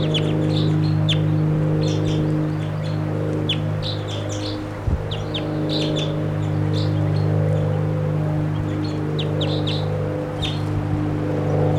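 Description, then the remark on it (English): Repeated high, sharp chirps and short calls of a wild bird in a tree right above a camp ring out in quick irregular bursts over a steady low engine-like hum, with no talking. “Right above the camp in a tree.”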